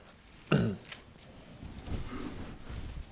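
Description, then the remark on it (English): A single short, rough throat clearing bursts out loudly, then gives way to a low, quiet murmur of background noise for the rest of the moment. “My apologies for clearing my throat often here this morning, one of those times of the year.”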